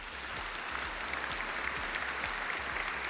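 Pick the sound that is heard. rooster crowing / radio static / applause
applause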